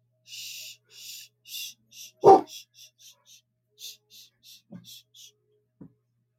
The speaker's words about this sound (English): There was some sort of noise outside the house that got the dog's attention.